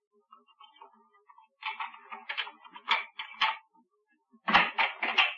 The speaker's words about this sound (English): I heard footsteps outside the house. Footsteps? Just listen.